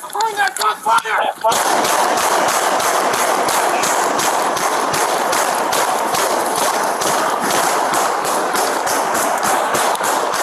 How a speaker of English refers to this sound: Then three final gunshots, 96 in total, according to investigators.